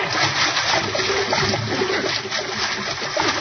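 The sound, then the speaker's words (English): Water churns and splashes steadily as a boat, the Nancy Ruth, goes under, a dense, continuous rush and slosh that stays fairly loud throughout, with no voices. “Quick! Let go and swim away from this hull. Fast as you can. Oh, she's going under.”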